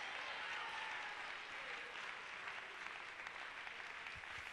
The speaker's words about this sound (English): And if you believe in prayer, clap your hands unto the Lord and give a praise of triumph to him.